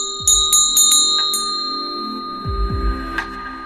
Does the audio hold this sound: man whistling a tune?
no